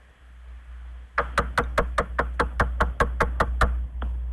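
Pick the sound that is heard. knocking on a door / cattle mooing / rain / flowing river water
knocking on a door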